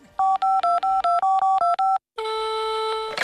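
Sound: telephone keypad dialing tones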